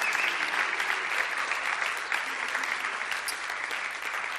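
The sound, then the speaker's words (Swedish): Sustained applause from a large audience for the whole Uprising team at EC18, a dense steady wash of clapping that fills the whole stretch at an even, fairly loud level without any pauses. “Låt oss ge dem en sån otroligt stark, varm applåd.”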